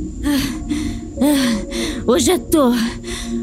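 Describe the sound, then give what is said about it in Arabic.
A voice imitates a boy panting heavily after running: about six quick, voiced gasping breaths in an uneven rhythm, fairly loud, with the last few sharper and more strained. “وإذا الغلام يظهر راكدا باتجاهها وهو يلهث.”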